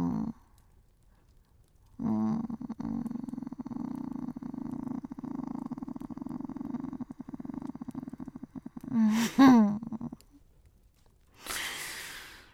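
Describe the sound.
A person imitates a cat's purr with a long, steady, rough throaty rumble lasting several seconds, ending in a short voiced sound and a breathy exhale.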